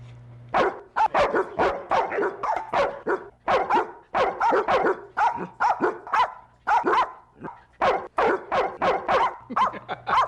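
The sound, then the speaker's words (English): Several dogs howl and yelp 'Happy Birthday' together in a loud chorus of short rhythmic bursts, keeping up a steady, song-like cadence for about ten seconds with no talking. “it's time to howl happy birthday to Roy”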